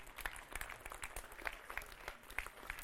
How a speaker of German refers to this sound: Applaus!